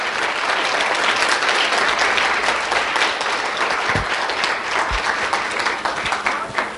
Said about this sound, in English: just give them a great round of applause, because they're the ones who saved it.